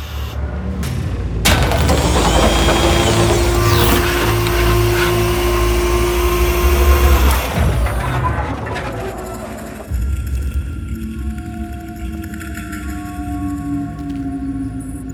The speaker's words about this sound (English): A door on the craft is opening.